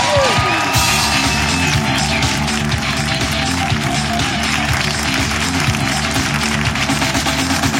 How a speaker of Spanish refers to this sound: Y que siga el aplauso, que siga creciendo, que crezca, que sea más fuerte, porque esto es Papelitos del Público por Hablando Huevadas.